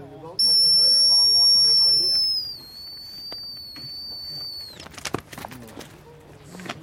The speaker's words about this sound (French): pour éviter de s'exposer, donc je vais rappeler, hein, à l'aide d'un sifflet. Comme ça, le chien va décrocher et venir se récompenser tout seul.